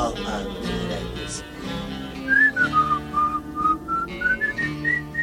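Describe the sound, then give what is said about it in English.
A clear, melodic whistled rendition of the tune Dixie starts about halfway through and carries a steady melody over a bed of background music with low sustained tones. “Well, Well, boy, you gonna pull them pistols or whistle Dixie?”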